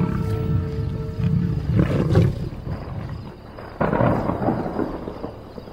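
Several lions of a pride growl and snarl while feeding together on an elephant, with deep, rumbling overlapping growls rising and falling in bursts, with no speech.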